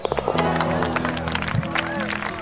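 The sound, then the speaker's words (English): A crowd applauds and cheers in a dense, steady wash of clapping that stays loud throughout, with voices mixed into the noise. “We got a crowd here, too.”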